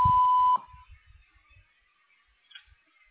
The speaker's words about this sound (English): you have reached the Ireland Army Health Clinic patient advocate. I am either on the phone or out of the office. At the tone, please leave a message with your name and phone number.